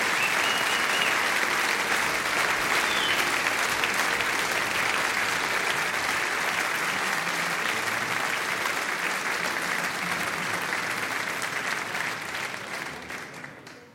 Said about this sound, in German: Applaus für den Chor der Jungen Union Miesbach. Dankeschön.